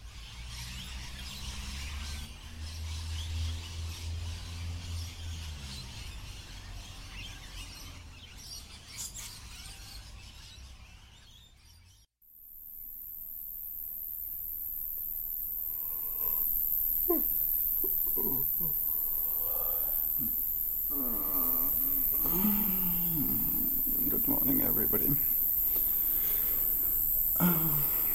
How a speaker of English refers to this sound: In our category Absolutely Down Under, you catch me waking up in my bed with my windows wide open to the tropical forest.